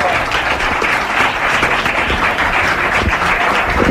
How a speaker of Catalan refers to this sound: Com han d'aplaudir, eh? Aplaudiu a l'Avi Madeu. Moltes gràcies, moltes gràcies.